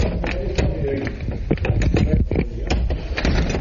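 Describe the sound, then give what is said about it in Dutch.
An old barn door being dragged shut but not closing properly, a steady grinding scrape broken by a series of sharp knocks and rattles, loud and unbroken for several seconds with no voices. “Ik zal even de deur goed dicht doen dan.”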